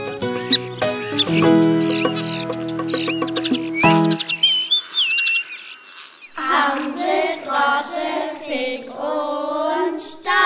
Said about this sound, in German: Wenn Stare schwatzen und singen, wird's bald viel Sonnenschein bringen.